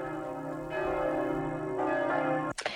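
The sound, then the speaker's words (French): Church bells in the Gers, in the diocese of Auch, ring with rich, overlapping tones, new strikes layering over a sustained hum; the pealing is steady and fairly loud, then cuts off abruptly with a brief burst of noise. “Les cloches vont sonner, nous retrouvons Isabelle Honnel, direction le Gers.”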